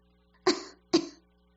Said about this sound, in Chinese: 雨村独自坐着无聊，喝了几口茶，翻了几页书，忽然听到院子里有女孩子的咳嗽声。